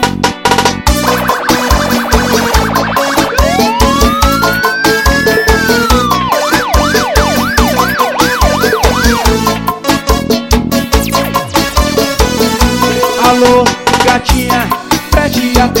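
A police siren wails in long rising and falling sweeps, then switches to a rapid yelping pattern, all layered over loud, driving dance music with a steady beat.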